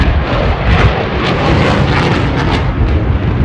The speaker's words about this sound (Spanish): los Rafale de la marca francesa Dassault también se robaron el show. Estos aviones de caza, tan apetecidos por saber hacer de todo, según sus creadores, tienen pedidos por 10 años